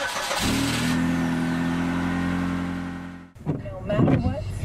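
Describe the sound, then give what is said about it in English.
A car engine turns over and settles into a steady, humming idle with a faint rise in pitch, then cuts off abruptly as a person starts talking. The car is setting out on a short trip to fill up on gas at a service station in Chateauguay, a suburb south of Montreal, Quebec. “For those of us staying home during the COVID-19 crisis, a car trip carries with it a strange sense of occasion.”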